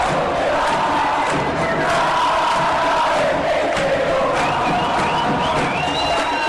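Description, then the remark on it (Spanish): A dense stadium crowd roars continuously after Ortega's goal for Olimpia, a shot off the post that puts Olimpia 1-0 up, loud and sustained for several seconds, with scattered whistles and shouts rising above the wall of cheering. “Olimpia gana el intenso juego 1-0, Ortega, el grito franjeado sacude el país, y así Olimpia pasa a ganar el partido 1-0, Luis Ortega.”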